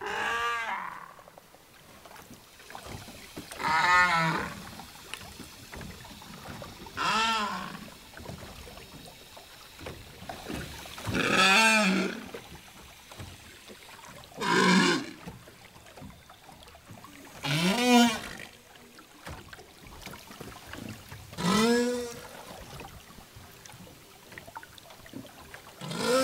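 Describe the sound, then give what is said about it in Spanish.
Whale song: a series of about seven long, wavering tonal calls rising and falling in pitch, spaced a few seconds apart over a low rumbling underwater background, with no voices. “Vamos a prestarle ahora más atención al canto de las ballenas.”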